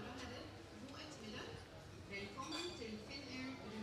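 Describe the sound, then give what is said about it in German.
A few light glass clinks ring out against a steady murmur of voices, like drinks touched together in a toast during a happy hour. “Ah ja, das heißt Happy Hour. Ich habe das verstanden. Happy Hour heute. Geil. Klasse. Schön. Prost.”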